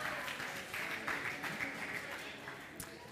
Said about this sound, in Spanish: Bueno, un aplauso, este era difícil.